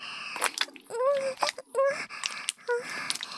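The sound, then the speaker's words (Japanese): Wet squelching and squishing sounds repeat irregularly, mixed with short squeaky, slippery tones, fairly quiet and with no talking. “ぐちゃぐちゃぐちゅぐちゅって、なんだかめっちゃい水の音が聞こえちゃいますよね。”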